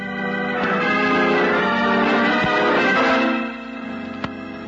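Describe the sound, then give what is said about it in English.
A bell rings loudly and steadily for a few seconds, its dense metallic tone swelling and then fading, followed by a brief sharp click near the end. “The bell.”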